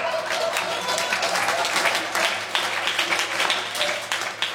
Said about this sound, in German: Denn hört einmal, wie ein Publikum so klingen kann nach einer fein erzählten Geschichte.